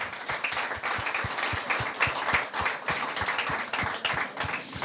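An audience applauds steadily for about five seconds to welcome Gigi Malabarba onto the stage, a dense wash of many hands with a regular rhythmic pulse running underneath, holding an even loudness throughout with no voices.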